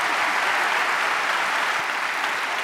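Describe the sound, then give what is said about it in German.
Sustained audience applause for musician Herbert Grönemeyer, a dense, steady wash of many hands clapping at an even loudness throughout, with no voices standing out. “Ist das immer so bei dir, dass der Applaus immer länger wird, je älter du bist?”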